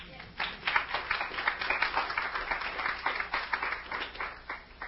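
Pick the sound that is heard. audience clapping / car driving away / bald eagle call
audience clapping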